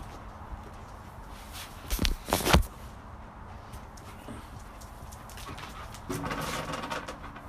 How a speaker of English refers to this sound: My dog's just trying to paw around